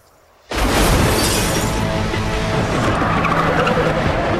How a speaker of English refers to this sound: Look out! An SUV hits him and breaks into pieces. It flips and crashes.